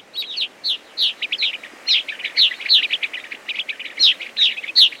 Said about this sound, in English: They are gray-crowned rosy finches, coming to roost for the night in an extensive colony of abandoned cliff swallow nests.